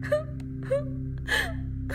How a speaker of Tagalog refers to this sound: Ilang sandali pa, Narinig ko na naman ang iyak ng isang bata na nanggagaling sa loob ng aparador.